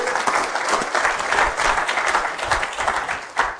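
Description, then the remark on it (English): An audience claps steadily to welcome a woman invited to read the Book of Jonah, chapter 1, a dense, even wash of many hands with no pauses, holding at a fairly loud level throughout, with one slightly sharper burst near the end. “Give her a good clap, shall we?”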